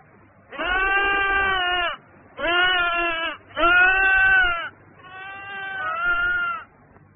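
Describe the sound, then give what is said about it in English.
A sheep bleats four times in a row, each call long and loud, with a quavering, wavering tone and brief pauses between the cries. “I hear a sheep.”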